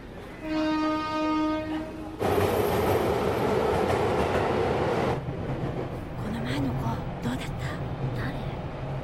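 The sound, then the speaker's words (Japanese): A steady horn-like tone sounds briefly, then a loud, rushing rumble of a train rolling along the rails takes over before easing into a quieter, continuous clatter and hum. “快速列車待ち合わせのため、この列車は4分ほど停車します。”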